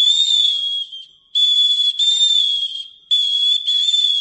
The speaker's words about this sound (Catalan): empraven les xiulades del xiulell com un tipus de protecció davant els vents tempestuosos. Els xiulets aguts, deien, atreien els vents favorables.